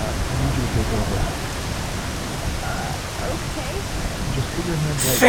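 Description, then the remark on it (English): Sudden steady rain, with high winds, hisses and patters continuously during fishing, a dense, even wash of drops with a brief louder burst right at the end. “Forecast didn't call at all for rain today.”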